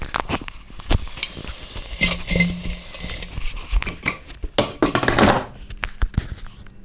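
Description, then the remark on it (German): Food sizzles with a steady hiss while the frying pan, pulled out of a cooking appliance with its motor stopped, is swirled to turn the food, with scraping and clinking knocks and two louder surges of frying noise; no one speaks. “Ja, ich ziehe die Pfanne heraus. Motor stopp. Bratgut wenden. Ich schwenke das Ganze hier mal ein bisschen.”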